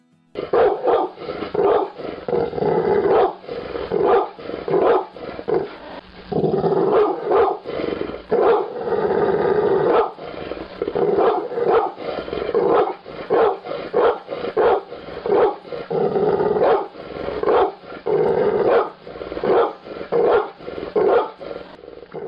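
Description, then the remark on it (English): A pitbull barks repeatedly and loudly, deep gruff barks coming in rapid bursts with brief pauses, continuing steadily for about twenty seconds with no one talking. “Pitbull dog barking number 3.”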